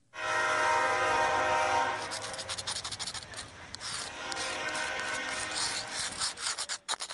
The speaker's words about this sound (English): The howling freight train roars past a former go-kart track,